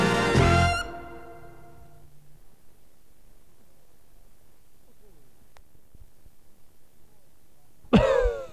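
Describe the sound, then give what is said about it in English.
A loud, raspy cough bursts out at the start, followed by several seconds of near-silence with a faint low murmur, then another sharp, harsh cough right at the end. “Boy, do I have a cough.”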